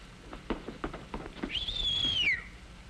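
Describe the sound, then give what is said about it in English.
A few sharp taps are followed by a man whistling at a woman: one clear, drawn-out whistle that rises, holds, then slides downward, moderately loud, with no talking. “Did you whistle, sir?”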